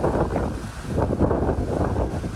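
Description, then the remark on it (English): Steady roaring wind from Hurricane Hillary, a Category 2 storm, buffets the microphone in heavy gusts in the tourist area of Cabo San Lucas, Baja California, Mexico, with crashing surf churning underneath; the rumble is loud and continuous, swelling and easing every second or so, with no voices. “This is what it sounds like in the tourist area of Cabo San Lucas.”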